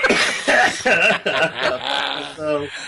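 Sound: coughing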